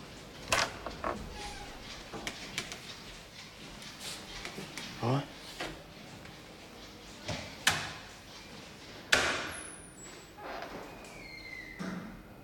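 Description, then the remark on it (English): A man knocks on the door of a ward: several sharp knocks and thuds at irregular intervals against a quiet background, followed by the clatter of the door and small handling noises as he takes cups into the ward. “father knocks at the door and takes the cups into the ward.”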